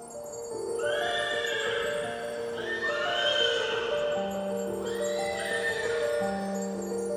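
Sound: horse neighing and hooves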